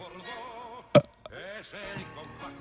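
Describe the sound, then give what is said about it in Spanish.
A single short, loud burp pops out, a brief abrupt burst between stretches of voiced murmuring and chatter. “¿Qué, ¿eructaste al aire?”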